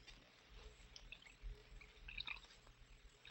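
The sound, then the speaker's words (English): Burgundy wine trickles and splashes softly into a goblet, a quiet pour with small gurgles and drips and no voices. “You'll have to pour the wine yourself,”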